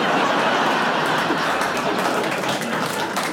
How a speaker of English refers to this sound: And we've got one here from Richard Ballantyne by the air vent of a supermarket.